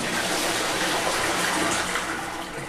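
A toilet flushes with a steady, loud rush of water, close by, sustained for a few seconds before starting to taper off, with no voices.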